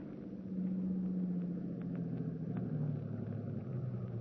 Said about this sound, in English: Wait in the darkness for the car coming down the road from the house.